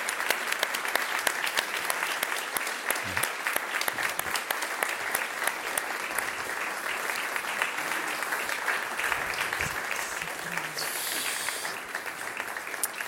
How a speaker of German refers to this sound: Wir begleiten Sie jetzt an Ihren Platz zurück. Ihr Applaus.